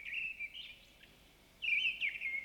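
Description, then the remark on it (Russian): A thrush, just arrived from southern countries, sings its first song, still timid: two short, warbling phrases, high and fluty, separated by a brief pause; quiet against a soft outdoor background with no voices. “Свою первую песню поет дрозд. Слышите? Пока еще очень робко.”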